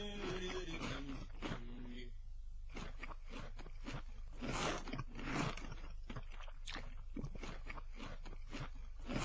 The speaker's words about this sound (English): Wait a second. Do you hear what I hear? Yeah, I hear it too. Cookie crunch!